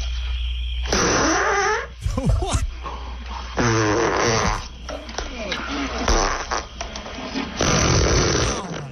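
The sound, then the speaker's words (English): A string of loud, buzzy fart sounds from the fart scene in the film Blazing Saddles, several in quick succession, some drawn out and wavering in pitch, with brief pauses and some voices mixed in. “The very first fart scene in cinema was...”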